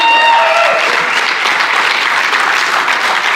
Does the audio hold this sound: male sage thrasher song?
no